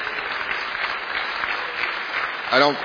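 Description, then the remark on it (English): Sustained applause from a large crowd, a steady dense clatter of many hands clapping, with a brief voice rising near the end. “I thank you for the applause.”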